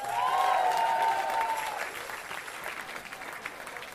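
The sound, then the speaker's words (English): An audience breaks into applause and cheering for a young man's 18th birthday and his next grade A attempt, with a high whooping cry over the clapping at first, then the dense clapping gradually thins and softens over a few seconds. “So, give him a big cheer for next week!”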